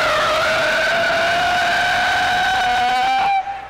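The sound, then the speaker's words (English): A voice imitates a car skidding sideways: one long, loud, high-pitched tire squeal, held steady and rising slightly in pitch for several seconds before cutting off abruptly. “The sound of an automobile skidding sideways from one intersection to the next.”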